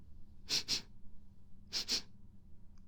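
Two pairs of quick, sharp sniffs, each double inhale separated by about a second of quiet, as someone eagerly smells bath water turned pink and scented with bath salt. No talking.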